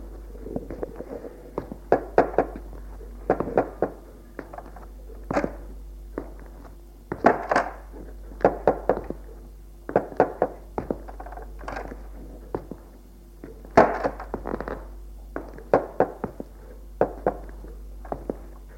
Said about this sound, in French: Arrivée au grenier, elle frappe aux portes et les ouvre.